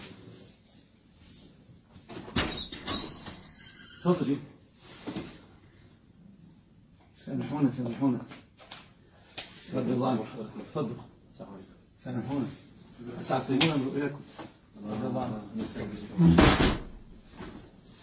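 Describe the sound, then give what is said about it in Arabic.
Sharp knocks on a door come in a few separate bursts, loud, interrupting a religious lesson, while people talk in between and over them. “أعتقد هناك دق لحظة.”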